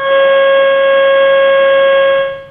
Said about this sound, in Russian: Это что? Это поезд, знаешь, когда сигналит, видимо, на поезде человек едет.